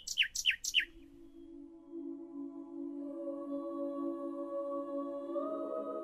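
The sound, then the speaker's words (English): Nightingale song: three quick, sharp descending chirps in rapid succession, followed by a long, steady, lower-pitched sustained tone that swells slightly near the end. No voices. “Current research suggests that male nightingales sing complex songs to communicate how good a father they will be to their young.”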